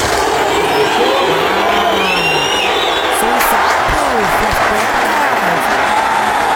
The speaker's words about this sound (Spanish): ¿Sí escucharon cuando abrió la puerta cómo se escuchó el ambiente del estadio? Mil años de diferencia.